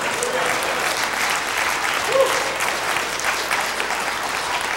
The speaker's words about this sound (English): Do you know why you're applauding right now? Because you know what he said.